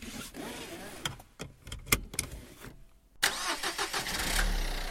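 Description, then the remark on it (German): A car engine cranks with a few sharp bursts, then catches and settles into a steady rumbling idle. “Auto fahren, komm, wir wollen Auto fahren.”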